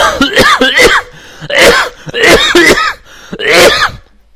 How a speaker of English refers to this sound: Six coughs would have sounded better than seven, but I had no control over that. I had no control over that. Maybe I could edit out one of them, or edit in an extra 5, and then there'd be 12, and that would balance.